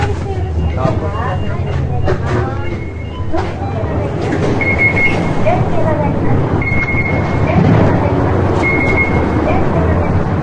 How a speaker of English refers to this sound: That beeping and repeating sound, that's a cement truck making a turn. In case you're wondering.